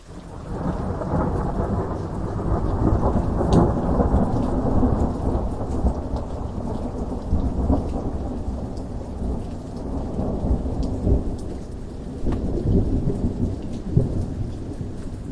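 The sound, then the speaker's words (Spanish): Rain falls in a steady, dense downpour that sets in right at the start, with low thunder rumbling underneath and scattered drops pattering close by. No voices. “La lluvia purificadora comenzó a caer, lavando la oscuridad.”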